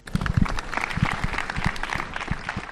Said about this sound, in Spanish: Es el minuto de silencio que se rompía con los aplausos frente al Ayuntamiento de Valladolid.